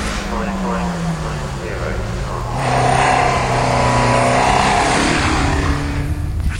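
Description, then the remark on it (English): A rescue truck's engine drones steadily as it tows a crashed Mini, which flipped over and has a big dent in its roof, off a motorsport course under red flags. The low hum shifts in pitch and swells louder midway, with muffled voices underneath. “Well, we just saw that Mini being pulled down by the truck, the rescue truck, and I actually don't think it's going to be taking part in proceedings this afternoon.”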